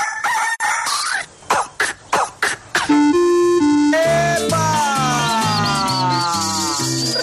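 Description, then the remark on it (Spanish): A loud rooster crows at the start, followed by a quick run of punchy rhythmic hits and then bright, sustained synthesizer music that carries on to the end. “En las mañanas manda el gallo.”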